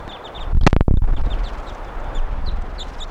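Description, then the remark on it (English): Wild birds, some of which came right up wanting to perch on the microphone and others next to the car, give short, high chirps over and over against a low rumbling background, with a sudden loud rustling burst early on. No one speaks. “And the birds, some of the wild ones came right here and wanted to perch on the microphone.”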